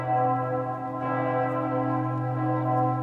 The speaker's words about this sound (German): Apropos Ulmer Münster. Stellt euch mal vor, ihr seid ganz hoch oben im Turm und hört dann die Glocken läuten, pünktlich zur vollen Stunde.